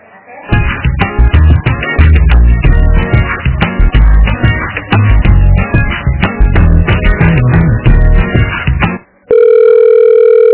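Tinny, band-limited telephone audio after a call dropped and the caller switched phones: a loud, busy rhythmic stretch, then a brief cut and a steady electronic call tone, like a phone line ringing through during a redial. No one speaks.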